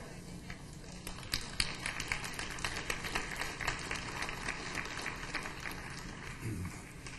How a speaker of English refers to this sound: Well, that was a weak little old bit of applause, I tell you.